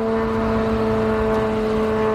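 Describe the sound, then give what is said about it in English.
A couple of cheap, noisy drones launched by Iran during the war fly very low and slow overhead, the loud buzzing engine holding one unwavering pitch throughout, with no voices. “These are the noisy and cheap drones that Iran has been launching since the start of this war.”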